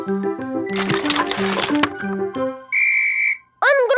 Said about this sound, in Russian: А это не ножницы, это свисток.